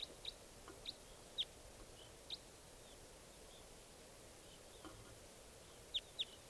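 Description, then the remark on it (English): Wild bird calls: a handful of short, sharp, high-pitched chirps spaced irregularly, with a quick pair near the end, over a steady low background hiss. No one speaks. “Two, six, three, seven, eight, wild bird calls.”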